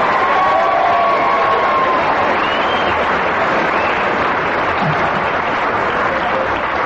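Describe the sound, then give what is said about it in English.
A large audience claps and cheers loudly and steadily for several seconds, the dense applause holding an even level throughout, with a few whistles rising above it early on. “I hope your cheer was for his deviation and hesitation and everything else which they let him get away with then, because that was a pretty saucy story.”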